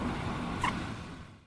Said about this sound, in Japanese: あ、車来たので失礼します。